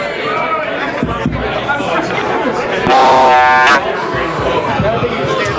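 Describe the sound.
A crowd chatters steadily, many overlapping voices blending into a constant hubbub, with a brief, louder tonal swell, like a buzz or shout, rising over the babble for under a second.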